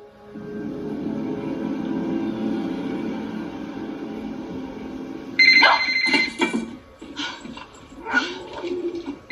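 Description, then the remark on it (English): A handheld cordless phone rings with bright, warbling electronic bursts, repeating several times in quick succession, fairly loud, after a stretch of steady low background hum. “The phone rings. She has a handheld cordless phone with her and it rings.”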